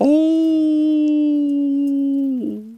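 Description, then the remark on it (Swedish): A human voice imitates a wolf's howl heard in a forest: one long, low, steady tone held for over two seconds, then sliding down in pitch as it trails off. “Ett långt, dovt ylande som...”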